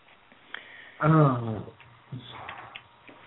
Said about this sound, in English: Sorry. No, I coughed.